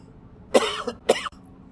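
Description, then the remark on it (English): Two coughs in quick succession, the second sharper and ending abruptly, against a quiet background with no talking. “See there, I didn't cut out that particular cough, just so you'd hear.”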